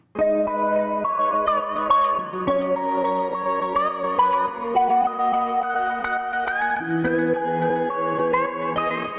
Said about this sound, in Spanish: una canción que sorprendió cuando la lanzaron por el aire rumbero que tiene